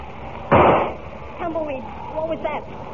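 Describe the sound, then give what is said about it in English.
A single loud gunshot, fired at Lightning, cracks out, its blast fading over a fraction of a second, followed by a short stretch of wavering, gliding vocal sounds. “I heard a shot”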